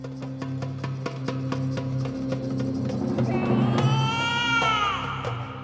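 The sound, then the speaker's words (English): The newborn son of King Dasharatha cries with a thin, wavering cry that rises in the second half, layered over a low droning background with steady rhythmic ticking throughout. “What is that? Why are you showing me the newborn son of King Dasharatha?”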